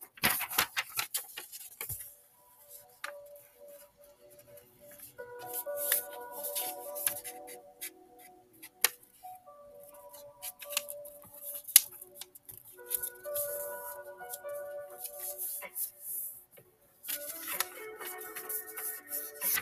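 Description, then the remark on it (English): Crisp snipping and rustling of paper as the folded part of a normal sheet is cut off with scissors to make a square sheet for lotus origami, in irregular bursts of short, dry clicks, over a faint tonal melody in the background. “I'm just gonna fold in my normal papers and cut off this part that I fold until it looks like it's square.”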